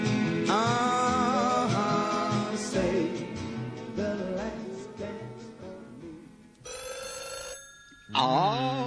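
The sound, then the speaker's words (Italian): A red telephone rings loudly and insistently, its bright bell tones repeating for several seconds with a brief shift in pitch near the end, and no one speaking over it. “Già sentito, c'è il telefono rosso con l'onorevole lì, avrà già sentito. Rispondi tu.”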